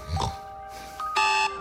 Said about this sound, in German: Bis der Wecker rappelt. Ja, ich habe Radio Ton im Wecker drin und werde damit geweckt und das ist ein super Start in den Tag.